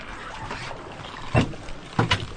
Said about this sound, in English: climbs out of the water and into the boat.